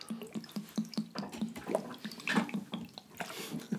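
Vodka glugs steadily as it is poured into a glass, a quick rhythmic series of hollow bubbling gulps, fairly clear, with no one talking.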